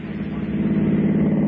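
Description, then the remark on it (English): An automobile engine runs with a steady, low rumbling hum, its tone holding constant and fairly loud for the whole moment with no other sounds. “An automobile.”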